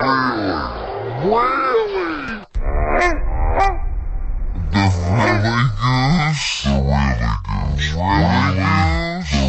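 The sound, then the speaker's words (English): A series of loud goose honks, harsh nasal calls repeating irregularly with short gaps and some overlapping, over a steady noisy background. “The rally goose.”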